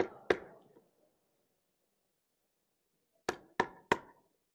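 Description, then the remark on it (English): FBI agents knock on the door of a home with a grand jury subpoena: a single sharp knock, a long silent pause, then three quick, evenly spaced raps, fairly loud with a short ringing decay, no voices. “They came knocking on my door with a grand jury subpoena from the Biden DOJ.”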